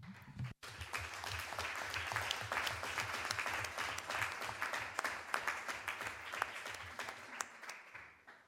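Sustained applause from a sizable community audience, many hands clapping densely and steadily for several seconds after a brief pause at the start, with a faint murmur of voices underneath.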